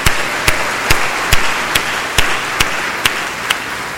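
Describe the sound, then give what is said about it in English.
Applause for a donor thanked for providing a warehouse, in a slow, steady rhythm: about nine sharp, even claps roughly twice a second over a continuous hiss of background noise, with no talking. “So let's hear it”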